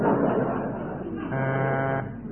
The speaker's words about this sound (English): That's a buzzer. That's a very thick horn.